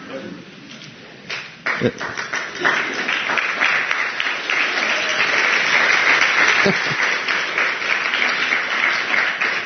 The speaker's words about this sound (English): Well, that applause was for the grace of God, I'm sure.